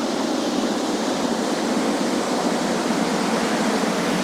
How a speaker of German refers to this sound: Wir wissen immerhin, hier auf der Seite ist das Wasser. Und das gerade, das tönt so. Das könnte vielleicht sogar eine kleine Anlage sein. Eine Kläranlage, das tönt nach Wasser.